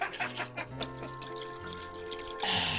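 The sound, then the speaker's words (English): Liquid glugs out of a bottle as it is poured into a glass, a steady pour whose gurgling tone shifts in pitch as it flows, with no voices present. “I will pull the bottle out of the cork and drink one sink full out of it as I pour the rest of it down the glass.”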